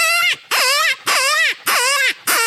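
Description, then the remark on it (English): A hand-blown open-reed predator call, also usable as a cow elk call, played with the lower lip to mimic a rabbit in distress: five loud, raspy, wavering squeals in a steady rhythm, each bending downward in pitch, with short gaps between and no talking. “But I can take that same call, use my lower lip, and it becomes a rabbit distress.”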